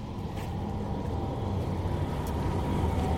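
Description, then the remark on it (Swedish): A tram rolls past with a steady, low mechanical rumble that holds fairly even for a few seconds, with faint higher hiss above it and no voices. “Nu åker det förbi en spårvagn igen.”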